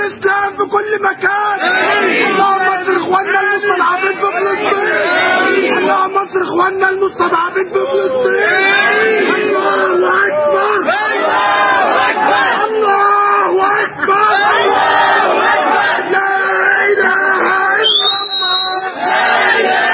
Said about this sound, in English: Let's go ahead now and go to this clip of them screaming Allah Akbar, and the cuss words are been cut out. Here it is.